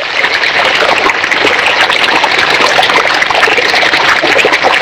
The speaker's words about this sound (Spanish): miré hacia la calzada, hacia la calle, y había colapsado, había reventado una vereda. Así sonaba precisamente el agua ahí al caer desde la vereda, desde la solera a la calle misma, y que no son más de 10 centímetros, imagínense el flujo de agua.